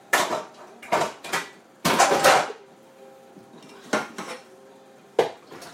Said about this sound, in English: You might as well just wash them and be done with it. Got quite a few baking trays to wash.